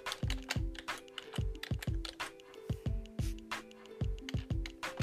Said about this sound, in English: Yes, I'm typing because I'm trying to find the meaning.